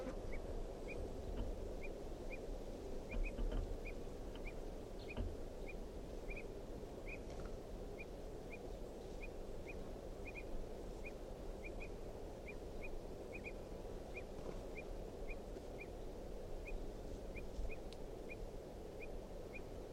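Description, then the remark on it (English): A wild bird gives a long, steady series of short, sharp alarm calls, repeating about twice a second over a constant low rumble of background noise. “So recording is a wild bird again, giving alarm calls.”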